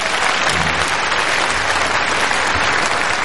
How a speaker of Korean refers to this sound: 예, 다시 한 번 더 큰 박수 부탁드립니다.